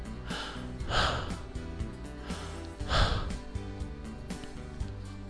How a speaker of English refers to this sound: All I could hear was you breathing. Good. That's exactly what I wanted you to hear.